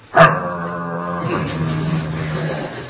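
A dog growls in one long, sustained rumble that starts with a sharp onset and holds steady for a few seconds, close and fairly loud, with no one talking.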